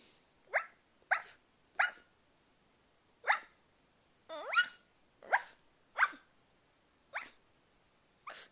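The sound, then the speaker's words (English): A person imitates a dog barking, giving about ten short, sharp woofs at an uneven pace, fairly loud with quiet gaps between them and no talking. “I think I can bark like a dog too.”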